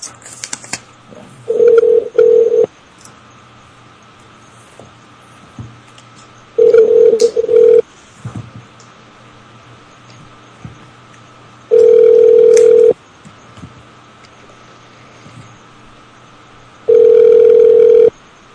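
A telephone line rings out with a steady electronic ringback tone while calling a guest room through a hotel phone system, four loud one-second bursts spaced about five seconds apart over a faint background hum, the first burst briefly stuttering.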